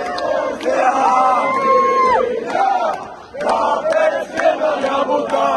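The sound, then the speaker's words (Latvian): A loud arena crowd of Latvian hockey fans in Tampere roars and chants in unison, with whistles and shouted tones rising over the din, a brief lull midway, then the cheering surges back. “Visbeidzot par Latvijas izlases panākumu ļoti priecīgi ir Somi, kuri Latvijas fanu pieskandināto arēnu un pilsētu pavisam tieši izjuta uz savas ādas.”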